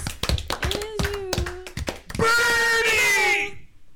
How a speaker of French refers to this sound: Yo, bravo. Non. Oui. Oui, oui, all bravo. Applaudissements de Minipot.